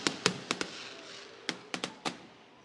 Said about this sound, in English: And these fireworks are making a lot of noise right now, so I'm trying to compete with them. I apologize.